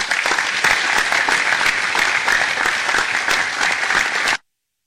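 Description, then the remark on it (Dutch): Sustained, dense applause from a crowd in a council chamber for all 18 council members, steady and fairly loud with many overlapping claps, continuing for about four seconds before stopping abruptly. “Dames en heren, ik vraag u nog vanavond voor een laatste keer namens mij een hartelijk applaus voor alle 18 raadsleden.”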